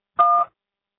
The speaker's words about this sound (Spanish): Después del tono, grabe su mensaje. Marque la tecla gato cuando termine.